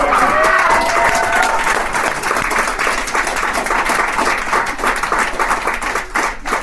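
A crowd applauds steadily throughout, dense clapping with a brief cheer or whoop near the start, loud and sustained for several seconds without easing off.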